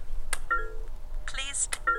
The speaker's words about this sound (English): Then he circles, tapping on each nail. Each tap is recorded by a very polite computer.